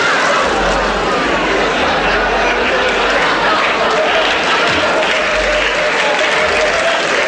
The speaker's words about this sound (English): and we have to be very careful because it's 400 degrees. Now, we take our little donuts, and we drop them in the hot vat. Do you hear them frying? Be very careful.